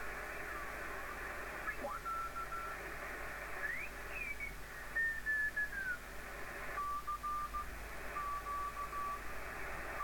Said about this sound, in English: There's a tone and Morse code. Now I'll try and notch that out.